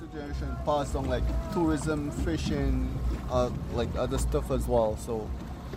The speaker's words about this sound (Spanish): El Monkey River Tour es una de las actividades acuáticas más destacadas del país y nos lleva a la ciudad homónima atravesando primero manglares en lancha.